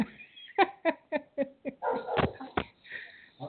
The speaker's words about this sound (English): I hear the puppies back there barking, so it's good to hear always. They're going to chime in today, too.